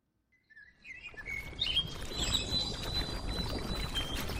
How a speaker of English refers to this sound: It is evening in Yaoundé and birds sing at a makeshift park near the Amadou Ahidjo Stadium, one of the sites of the 2016 Women's Football Africa Cup of Nations.